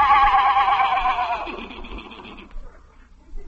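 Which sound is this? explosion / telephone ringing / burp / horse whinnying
horse whinnying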